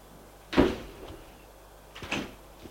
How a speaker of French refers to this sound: La porte s'ouvre.